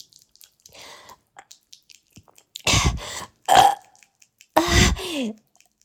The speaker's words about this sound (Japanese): やばい。なんか、炭酸一気飲みしたから、なんか変なゲップが出る。